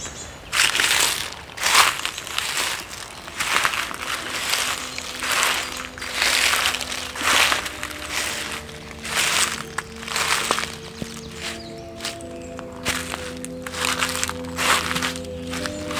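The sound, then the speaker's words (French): Steady footsteps crunch along a small path of dry, brittle dead leaves, each step a loud crackling rustle. Faint sustained tones drift in the background as the walking continues throughout. “La piste s'est perdue au bénéfice d'un petit sentier de feuilles mortes.”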